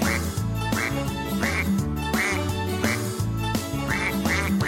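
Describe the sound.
A child's voice imitates the ducks of a farm, quacking over and over in a steady rhythm on top of a bouncy musical accompaniment, clear.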